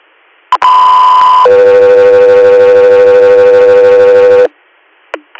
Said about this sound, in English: Guthrie Air, stand by for tones.